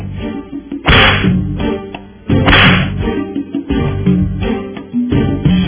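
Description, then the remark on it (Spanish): Two sharp whip cracks snap out loudly, about a second and a half apart, each a bright burst over a steady low background rumble, with no voices present. “Estos latigazos son para el Ministerio de Economía, para todo el sector de economía que tiene que trabajar ahí, para el Ministerio de Hacienda, para todos, ahí vamos, esos latigazos ahí, ¿verdad?”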